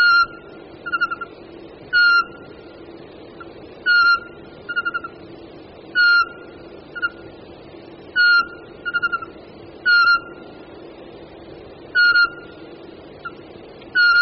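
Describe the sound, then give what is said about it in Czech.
An excited male Eurasian pygmy owl gives repeated clear, piping territorial whistles at a steady two-second rhythm, with short simple trills slipped between them, loud with no voices. “Je-li sameček vzrušen, doplňuje své pískání ještě jednoduchým trilkem.”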